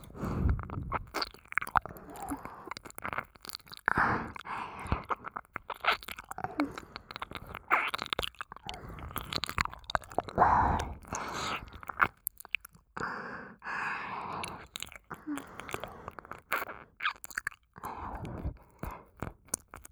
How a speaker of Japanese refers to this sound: 左も舐めてあげますね。